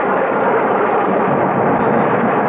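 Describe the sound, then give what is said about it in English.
A loud, sustained roar of thunder from a storm with lightning at night, heard aboard an airplane in turbulence, rumbles steadily through the whole stretch, dense and noisy without any sharp crack or break. No one speaks. “It's pitch black out there. Except for the lightning. We've hit some really rotten weather.”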